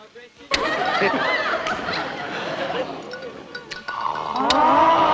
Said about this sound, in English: Mechanical laughter, mechanical applause.